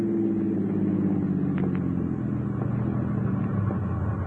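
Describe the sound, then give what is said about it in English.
A steady, low rumble of the 704 train in the distance, approaching a train crossing on the outskirts of town, a continuous deep mechanical drone with faint higher clanks drifting over it, heard alone without any voices. “As you near the train crossing, you hear it in the distance.”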